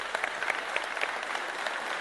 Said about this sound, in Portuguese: Uma salva de palmas. Uma salva de palmas, menina.